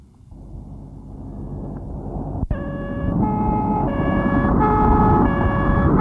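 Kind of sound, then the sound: vehicle, ambulance siren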